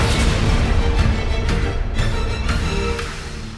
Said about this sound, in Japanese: 鎧に刺さったドリル型の矢。赤く光り食い込む。爆発。